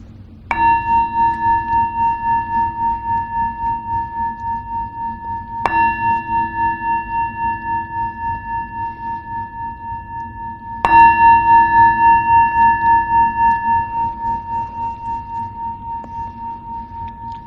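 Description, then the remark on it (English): A meditation bell is struck three times, about five seconds apart, each ring a clear, steady tone with bright overtones that hums on and slowly fades. “So as the sound of the bell fades, just come into the body and see if you can come into your own body with a sense of friendliness, a sense of gratitude”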